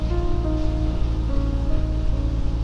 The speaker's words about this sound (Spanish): Hoy es un día lluvioso, bastante lluvioso. Se cae el cielo por acá y en Centroamérica está más complicada la cosa.